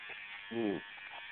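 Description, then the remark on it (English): An electric razor buzzes with a steady, high-pitched whir from start to finish as a hunting club member shaves, joined midway by a brief, louder voiced sound. “That's a hunting member, club member shaving.”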